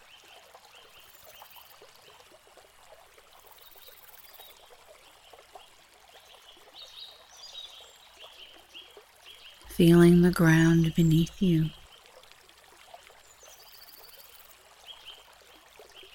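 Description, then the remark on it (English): A gently flowing stream trickles and babbles steadily and softly throughout, with a brief spoken voice rising over it near the middle. “Hearing the sounds of the water flow past.”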